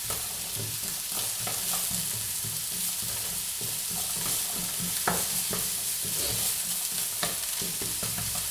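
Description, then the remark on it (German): Steady sizzling of carrots and sweet potatoes frying with onions and a pinch of turmeric in a pan, with scraping and clacking as a utensil stirs them through the hot oil; no voices. “Tue jetzt die Möhren und die Süßkartoffeln dazu.”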